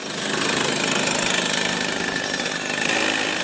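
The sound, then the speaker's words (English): A small go-kart engine is warmed up before a practice for the world championships, revving loudly and steadily, its buzzing, raspy drone holding a constant high pitch for a few seconds with no voices. “Lance warms the kart engine up before another practice for the world champs.”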